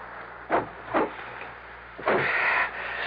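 A car door is shut after a passenger slips into the seat. There are a couple of quick thuds, then a longer rustling clatter as it settles, over a steady low background hiss with no one speaking.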